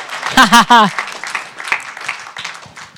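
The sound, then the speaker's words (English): A crowd breaks into applause as a man is called up, opening with a couple of loud, rising whoops before steady clapping continues at moderate volume, with scattered voices in the mix. “Give a hand clap to the mister in the house.”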